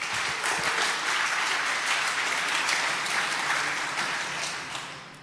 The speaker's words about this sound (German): Applaus fürs Walk.